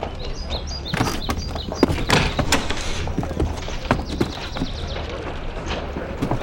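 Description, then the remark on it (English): Horse hooves clip-clop in a steady, uneven rhythm as a rider, Morgan, rides off from a mine, the hoofbeats sharp against a constant outdoor background with no one speaking. “Was that Morgan I saw riding off?”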